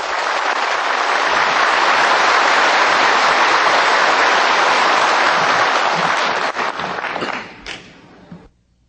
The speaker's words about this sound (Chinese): 现在请各位来宾以最热烈的掌声恭请上清下海无上师。